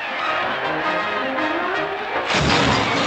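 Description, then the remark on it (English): A fire engine full of clowns crashes into a fake burning building: a dense, roaring rumble of clattering noise swells into a loud smashing impact near the end, with no voices. “The fire engine, full of clowns, crashes into the fake burning building.”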